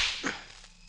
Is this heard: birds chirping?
no